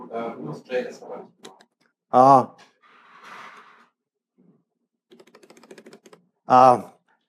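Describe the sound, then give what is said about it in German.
A quick run of light, rapid computer keyboard taps clicks for about a second, following brief talking and short, loud tonal bursts that rise above the background. “Man soll nicht zu schnell tippen.”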